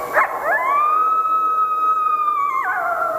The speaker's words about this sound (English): As Austin put it, "Of no account you who lie out there watching, nor the lean coyote that stands off in the scrub from you and howls and howls."